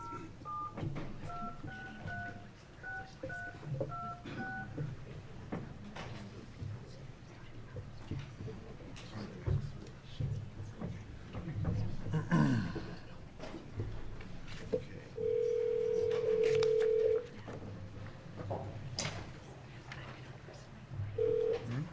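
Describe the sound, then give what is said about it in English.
A rapid string of touch-tone beeps as a phone number is dialed to reach a witness during an Oregon House Judiciary Committee hearing. A pause follows, then a steady ringing tone sounds for about two seconds and starts again at the end, over faint room noise. “And now we'll try to get Mr. Basner on the phone.”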